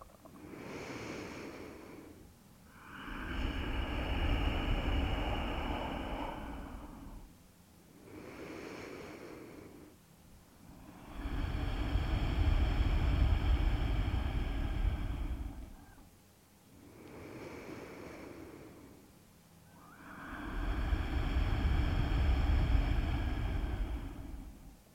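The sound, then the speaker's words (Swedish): Three slow cycles of audible ujjayi breathing, each shorter hissing inhale followed by a longer, louder oceanic exhale through a constricted throat, steady with no talking. “Ujjayi andetag med det där lätta motståndet i halsen.”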